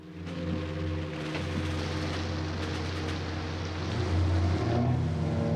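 A boat's engine rumbles steadily as it pulls in to dock at a prison jetty with a watchtower, amid rain and splashing water, then grows louder with a dull low bump against the jetty near the end.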